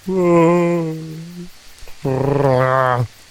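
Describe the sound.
A person voicing a placated bear imitates a Wookiee-style growl in two long, loud, throaty calls, each a low rumble rich in harmonics, with a short pause between them.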